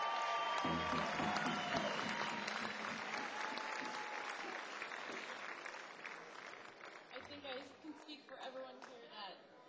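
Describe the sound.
A crowd applauds steadily for several seconds, a dense wash of clapping with some cheering and voices mixed in, gradually thinning toward the end.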